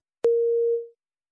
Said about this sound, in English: Repeat the word pairs after the beep, making a distinction between the two sounds.